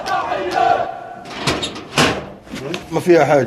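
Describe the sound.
Several plastic refrigerator drawers, nearly all empty, slide open and clatter one after another in a home in Gaza, separate bumps and scrapes mixed with people talking.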